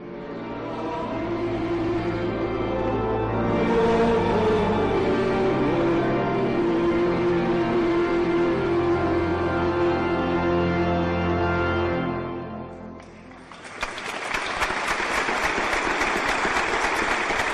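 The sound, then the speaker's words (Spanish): The hymn of the Jubilee of Hope, sung with rich harmonic tones, fades out, then the audience at the Church of León's funeral mass for Pope Francis bursts into steady, dense applause that continues loudly for the last few seconds. “Con ese aplauso, tras el canto del himno del Jubileo de la Esperanza, concluía este pasado martes la misa funeral con la que toda la Iglesia de León agradecía la entrega del Papa Francisco en sus 12 años de pontificado”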